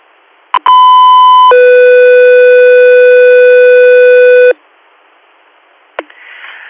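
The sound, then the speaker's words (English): Radio dispatch alert tones for the air unit Echo 3 Air: a loud, steady higher tone held for about a second, then a lower tone sustained for several seconds, framed by sharp radio squelch clicks and faint static, with no voices. “Echo 3 Air, standby for tones.”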